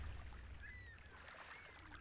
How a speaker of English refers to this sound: When Jesus heard what happened to John, he climbed into a boat and began rowing. The oars gently dipped into the water as he rowed away to a quiet place by himself.